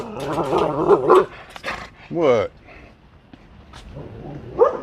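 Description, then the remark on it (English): A dog, Mr. Doggy, growls while baring its teeth in several throaty, warbling bursts, the grumbling rising and falling in pitch with short pauses between, plus a final brief snarl. “I tried to flip it around so you can see Mr. Doggy showing me his teeth.”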